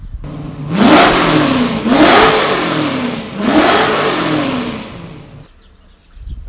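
A race car engine revs loudly three times in quick succession, each rev climbing in pitch and falling back, before the sound cuts off abruptly.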